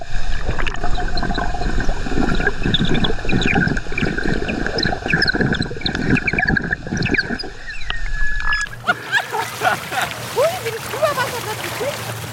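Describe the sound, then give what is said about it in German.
A flute played underwater and recorded with an underwater microphone gives muffled, wavering sustained tones over dense bubbling and gurgling. Near the end the playing stops, leaving a thinner watery hiss with faint chirps. “Also wir tauchen beide ab, du nimmst das tolle Unterwassermikrofon mit und ich spiele die Symphonie des Wassers unter Wasser.”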